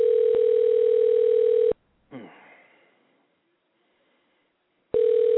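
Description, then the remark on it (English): A phone call placed during a show rings out unanswered: a steady, buzzing ringback tone sounds, cuts off, a short burst of noise fades into silence, then the tone starts again. “You give me your phone number, I expect you to answer it.”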